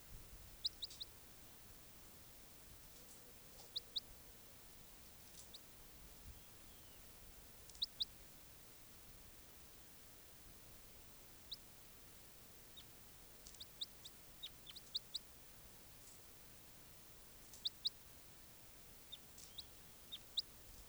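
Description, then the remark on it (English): Brief, high-pitched calls from bird 591, often in quick pairs, repeat every few seconds against a soft, steady hiss. The calls are fairly faint and no one speaks. “And 591 responding. Step. This is bird 591.”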